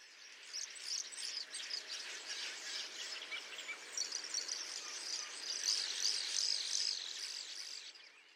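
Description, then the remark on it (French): A bird on a twig chirps and twitters on and on against a dense, steady wash of high-pitched outdoor chatter, with brighter trills rising toward the end. No one speaks. “Soleil d'avril, gazouillé sur une brindille”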